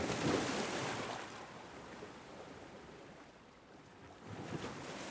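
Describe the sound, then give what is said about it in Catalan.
Wind-driven sea waves wash onto a sandy shore, a broad hissing surge that swells, recedes into a softer rumble, then rises again near the end. No one speaks. “L'aigua forma onades que viatgen fins a la sorra.”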